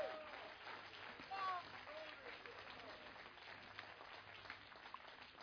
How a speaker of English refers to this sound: Give the Lord a clap offering, somebody.